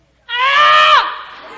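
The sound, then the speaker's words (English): A voice imitates a kindergarten boy's single loud, drawn-out yell, harsh and strained, held for most of a second before the pitch drops and it trails off into a quieter tail. It stands alone. “So Connor yells really loud.”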